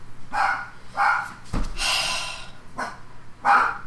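A dog barks at the back door a few times with uneven pauses, moderately loud and slightly muffled, with a breathy huffing or snorting sound in between. No one speaks.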